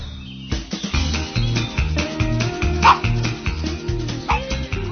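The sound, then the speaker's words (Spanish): Upbeat theme music of a pets segment on Cope Vigo radio, with a steady bass rhythm, punctuated by a dog's short barks and yips mixed loudly into the tune. “sonando ya nuestra sintonía favorita. Nuestras mascotas, pajaritos, gatitos, perros.”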